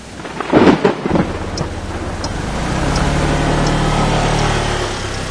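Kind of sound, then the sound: nature, heavy rain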